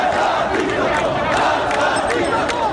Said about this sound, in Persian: شعارهای علیه ولایت فقیه و آیت الله علی خامنه ای رهبر جمهوری اسلامی فریاد زده شد. خیابان‌ها شلوغ‌تر شدند و دامنه تظاهرات به سرعت به دیگر شهرهای ایران کشیده شد.